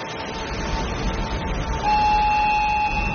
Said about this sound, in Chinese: 马上汽笛声，马上就会运到下一个位置。现在整个运输的过程是非常平稳的，我们也看到整个车头也好，车尾也好，都是没有人在驾驶的。